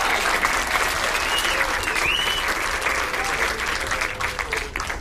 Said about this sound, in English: I'm very grateful that you came out. Please, a round of applause for yourself. Thank you.